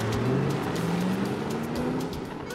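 A red Corvette sports car fleeing police speeds past on a road heading south, its engine droning in a steady rising whine over loud, continuous road roar for a few seconds, with no voices.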